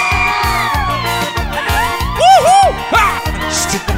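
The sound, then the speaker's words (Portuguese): A crowd screams and cheers excitedly, high-pitched shrieks and whoops rising over a steady, rhythmic pulse of loud music with a thumping beat. “Cadê o gritinho dos apaixonados?”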